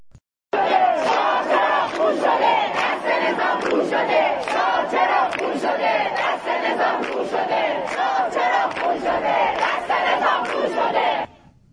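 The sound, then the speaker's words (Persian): A large protest crowd at a university (National University or Beheshti University, on 8 Aban) chants slogans in unison, loud and continuous, with rhythmic rising shouts and repeated accented beats carried by many voices. “یعنی شعارها خیلی هوشمندانه انتخاب میشه.”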